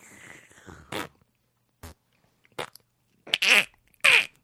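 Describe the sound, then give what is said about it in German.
A person imitates a duck's mating call with mouth noises: a rough, breathy opening, then a series of short bursts building to two loud, squawky, nasal honks at the end. “So. Das war der Paarungsruf bei einer Ente.”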